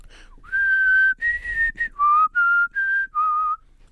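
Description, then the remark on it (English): A person whistles the Olympic theme tune: a series of sustained, clear fanfare-like notes with brief gaps, some wavering slightly, lasting a few seconds. “We have a winner in the eating and whistling event.”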